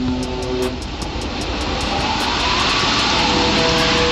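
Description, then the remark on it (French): A huge 440,924-tonne ship, deliberately scuttled after it was found it could not be repaired, sinking into water: a loud, steady roaring rumble with drawn-out metallic whines and groans above it, plus a faint regular ticking, with no voices. “Et le son lorsqu'il coule est étrange et incroyable.”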